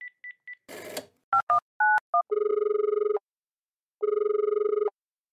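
Quick keypad beeps and a short burst of noise give way to a phone's ringing tone: two long, buzzy rings separated by a pause, loud and steady, with no one talking.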